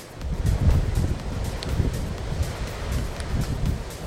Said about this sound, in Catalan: I aquesta és la ventada que ahir hi havia a la zona de l'Alt Empordà.